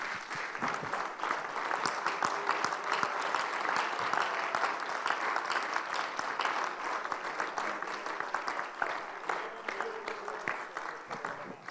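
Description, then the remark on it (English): A large audience at a worship service claps steadily and enthusiastically as a hand clap of praise to the Lord, a dense wash of overlapping hand claps for the whole stretch, with faint crowd murmur underneath and no clear speech. “Before you're seated, would you give the Lord a hand clap of praise?”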